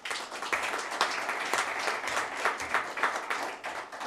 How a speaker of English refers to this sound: Let's clap for him.